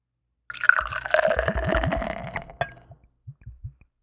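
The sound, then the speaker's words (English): A dark Belgian-style beer is poured aggressively into a glass for about two seconds, a forceful gurgling, splashing rush that tapers into a few scattered drips and fizzy settling sounds. No one speaks. “Yeah, it's a aggressive pour, but I think it's going to be okay.”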